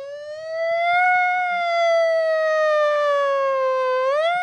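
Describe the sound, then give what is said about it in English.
A voice imitates a siren with one sustained, loud wailing tone that sags slowly in pitch, then swoops back up near the end, with no other talk. “Can you make the siren for me?”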